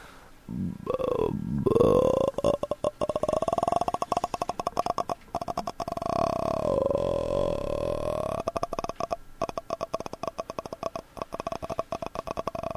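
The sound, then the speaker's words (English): A person makes a long, slow croaking noise with their voice, trying to make it as slowly as possible: a low creaky rattle of rapid clicks held for about twelve seconds, the clicks growing sparser toward the end. No speech. “Publicly investigate, like, out in public, find out just how slowly you can make a croaking noise.”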